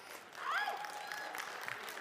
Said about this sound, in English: Catcalls are optional, but applause would be good.